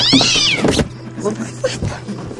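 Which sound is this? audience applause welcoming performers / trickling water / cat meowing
cat meowing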